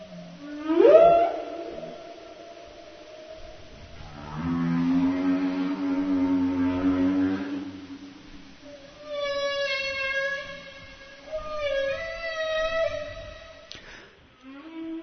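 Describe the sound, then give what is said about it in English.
Underwater whale song recorded in Seymour Canal, Alaska: a rising whoop, then long low moaning tones followed by a series of harmonic, wavering cries, echoing and unhurried with no voices present. “So do you think that the whales that we're hearing in this recording from Seymour Canal are those similar songs that you hear from the males in Glacier Bay?”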